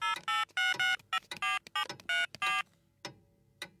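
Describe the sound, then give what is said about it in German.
A quick series of electronic keypad tones as Flori's mobile phone number is dialed, about ten short beeps in an uneven rhythm, clear, followed by a couple of faint clicks. “Ich probier's nochmal auf Floris Handy.”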